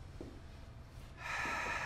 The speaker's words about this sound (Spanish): Respiro. ¿Vieron la diferencia?